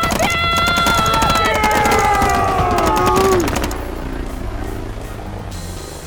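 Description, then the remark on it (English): Rapid, sustained machine gun fire aimed at a helicopter rattles for nearly four seconds over a loud whining tone that slides downward in pitch, then cuts off, leaving a low rumbling hum. “Grab a rifle off the squad leader and fire at the helicopter!”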